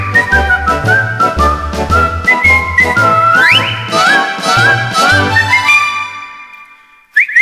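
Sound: melodic human whistling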